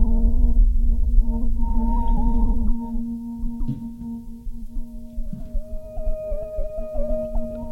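Sustained, harmonic guitar tones warp and bend in pitch through two DIY Shallow Water (Fairfield) modulation pedals placed side by side at the end of the chain, with strength, rate and mix turned up, giving a wobbly, whale-like warble; a heavy low rumble underneath fades after the first few seconds.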